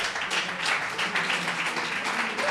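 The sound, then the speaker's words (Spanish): Steady audience applause after a correct answer in a quiz, many hands clapping at once, a dense crackling wash of sound that holds evenly for a couple of seconds with no voices. “Correcto, un fuerte aplauso.”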